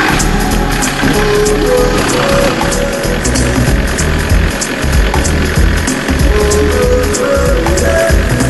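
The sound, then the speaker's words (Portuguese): A car engine runs steadily as the car drives through the park of Chambord, a loud continuous rumble with a mid-pitched drone and some faint rattling, holding level throughout with no talking. “Daí a gente vai agora nesse carro aqui.”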